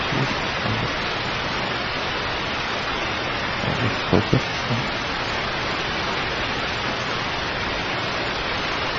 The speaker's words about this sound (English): So here's a river passing through, and he stood there for some time until another jeep, this is the jeep which we refer to, another jeep, drove through it, and then we thought, okay, it's safe.